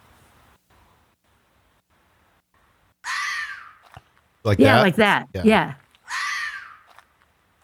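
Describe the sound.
A red fox screams twice, each a harsh, raspy shriek lasting under a second and fairly loud, with a few quick spoken words between the two cries.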